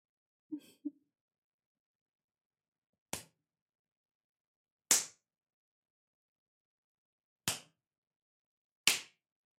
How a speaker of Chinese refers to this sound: 那我就做得更过分一点了。不知道鞭子打在这里会是什么样的效果呢？